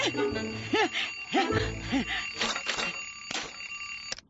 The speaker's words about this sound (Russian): Достаем будильник!